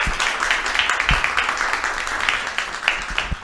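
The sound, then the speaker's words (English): An audience at an event applauds steadily, many hands clapping at once in a dense, continuous patter at moderate loudness, with a few lower thumps mixed in and no one speaking, giving a round of applause to two guests. “I want to thank both Juan and Reina for being here and give them a round of applause”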